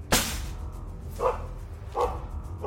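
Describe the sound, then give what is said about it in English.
A dog named Boss, running in circles, barks three times in quick succession, the first bark sharp and loud, the next two a bit duller, spaced under a second apart, with no voices. “Boss was running in circles, barking madly.”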